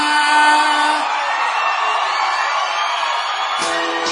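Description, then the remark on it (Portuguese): A crowd whooping and shrieking together in a sustained, loud burst of high-pitched cheering that holds steady for several seconds before a lower voice cuts in near the end. “Cadê o gritinho da minha galera?”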